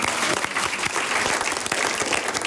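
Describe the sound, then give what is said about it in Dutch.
A live listener audience in the large hall of Studio De Smet in Amsterdam claps at the final of the cooking contest Lekker Vies on the programme Mangiare, a dense, loud wash of many hands with a few sharper individual claps standing out, sustained without a break. “Laten we klappen voor onze luisteraars.”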